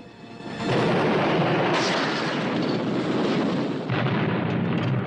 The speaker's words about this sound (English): Braddock opens the pilot's side door, then jumps. Colonel James Braddock, missing in action. The empty chopper slams into the ground.